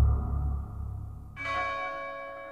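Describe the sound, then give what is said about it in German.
A cheerful, lively bell rings out clearly, first a deep low tone with a lingering hum, then a bright, shimmering strike whose overtones ring and sustain. No voices are present. “Ein Glockenton. Fröhlich beschwingt. Eine Glocke, die das Herz erbeben ließ.”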